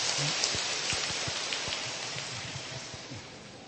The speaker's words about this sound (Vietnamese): Rồi, cho một tràng pháo tay, cảm ơn các bạn.